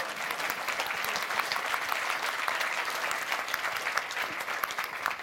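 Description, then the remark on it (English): An audience claps steadily for the person handling the microphone, a dense crackle of many hands that stays fairly even in loudness for about five seconds without any talking. “So, maybe a round of applause for our angel with the microphone.”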